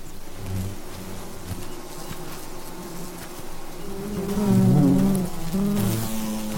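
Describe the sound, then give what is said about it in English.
A dense swarm of bees buzzes continuously around Bakari and Toto as they go for the honeycomb, the droning hum shifting in pitch and swelling louder near the end. “And bees also go for the eyes.”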